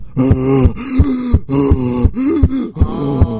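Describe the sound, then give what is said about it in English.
A voice imitates heavy, rhythmic panting, about six loud breaths with strained, groaning tones, mimicking a runner about 6 feet behind the speaker on a run around a lake, gasping for air. “He's breathing heavy, and I slow down.”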